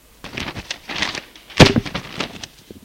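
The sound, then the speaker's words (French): Sheets of paper rustle in a series of soft, crisp bursts as they are thrown onto a table, landing with one sharp, louder slap, followed by a few more light rustles. No one speaks. “jette les feuilles sur la table.”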